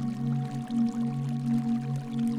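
Steady splashing of a waterfall pouring continuously into a bath, with soft music playing as a soft low droning tone sustained underneath. No voices.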